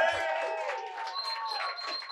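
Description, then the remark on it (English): A live audience claps and cheers together for everybody at home, a steady wash of applause mixed with whooping voices that stays loud for a couple of seconds. “And we have a real life audience, so let's hear them clap it up for everybody at home.”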